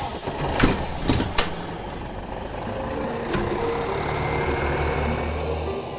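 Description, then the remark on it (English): A large tour bus engine idles with a steady low rumble at the end of a tour at Loch Ness, Scotland, while a few sharp clunks and rattles ring out near the start and a brief clatter follows midway. “If you can get back on the bus, we'll return to the hotel.”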